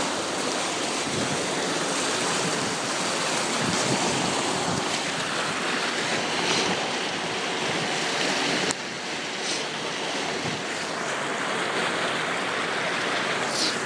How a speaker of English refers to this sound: Just going to pause the recording for a moment whilst I take a photograph of the water surging through the archway here underneath Richmond Bridge.